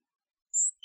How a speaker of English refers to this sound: Where's the bird? Where's the bird? Oh, look! It's in my hat.